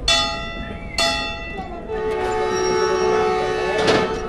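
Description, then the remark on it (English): A green and cream-coloured, battered-looking train pulls into a station in Pakistan, with sustained metallic squealing tones from the brakes, a sharp clank early on, and a swelling burst of rumble and screech near the end. “Our train pulls in.”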